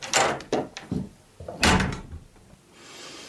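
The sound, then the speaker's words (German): A door is handled as someone steps outside, with a few short bursts of rattling and knocking and a louder thud-like movement in the middle, followed by a quiet stretch of faint hiss. “Ich muss mal kurz vor die Tür.”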